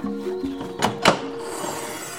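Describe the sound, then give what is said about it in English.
A hidden wooden secret door in a tree trunk swings open with two quick, dull thunks, followed by a soft airy rustle that fades out, all over a faint steady hum. “We'll just open this secret door.”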